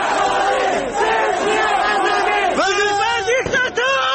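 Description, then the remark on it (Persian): A crowd shouts and chants loudly and continuously, voices rising and falling, with a sharp crack or two like gunshots cutting through near the end. “و این هم گلوله‌های مستقیمی که گفته می‌شود توسط نیروهای بسیج شلیک می‌شدند.”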